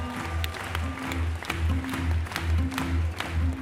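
A theater audience applauds steadily during a performance, the dense clapping carrying a rhythmic low musical pulse underneath, with no clear talking.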